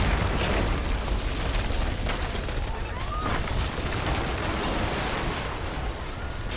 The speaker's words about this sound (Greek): Μόλις έφτασα κάτω από τη σκάλα έγινε η τρομακτική σεισμική δόνηση με αποτέλεσμα την κατάρρευση του ορόφου του κτηρίου.